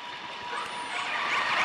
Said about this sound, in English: The noise of a cruise ship completely drowns out the sound of this small clan of whales conversing in a matter of seconds. Sound in the ocean travels incredibly well.